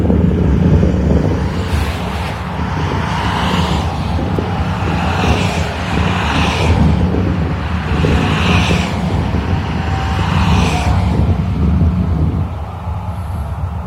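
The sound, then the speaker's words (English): Steady, continuous roar of highway traffic on Route 9, with a low rumble and occasional vehicles swelling and fading as they pass, no voices present. “This is just Route 9 traffic noise level.”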